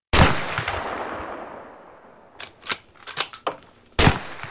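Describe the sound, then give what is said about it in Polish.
A loud shotgun blast, fired at a robber, booms out and rolls away in a long echoing decay, followed by a few scattered cracks and another sharp bang near the end. No one speaks. “To huknęło. To walnęło. Mało się nie wywróciłem.”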